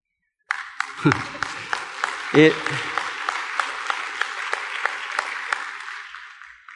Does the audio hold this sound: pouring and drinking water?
no